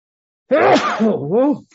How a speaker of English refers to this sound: I'm going to sneeze. I'm sorry.